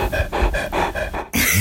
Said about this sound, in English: all we're going to hear is Gabby panting in her ear